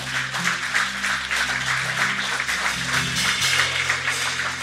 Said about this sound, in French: on peut applaudir.